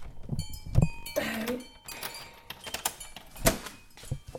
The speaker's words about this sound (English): Okay, you'll hear a wind chime that I got from your birthday. It's hanging under the patio door, which is quite cool. You'll hear it more when I open it.